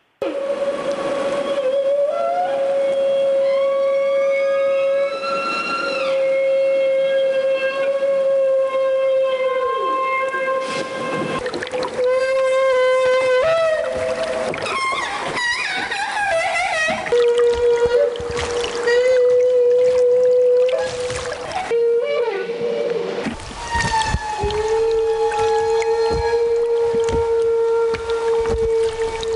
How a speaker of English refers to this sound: You sent us some great acoustics. You sent us a great feeding call from the whales. We'll start off with that.